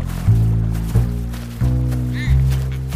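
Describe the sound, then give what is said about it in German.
A voice imitates a goose's cackle, Aunt Goose pecking for grains on a meadow: four low, nasal honks in a steady rhythm, each held for about half a second, loud, with no other sounds. “Auf der Wiese trafen sie die Tante Gans, die wie immer um diese Zeit nach Körnern pickte.”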